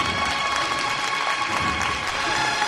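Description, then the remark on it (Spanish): A crowd applauding steadily, a dense, crackling wash of many hands clapping at once that stays fairly loud and even throughout, with no voices standing out. “Y arrancan los aplausos.”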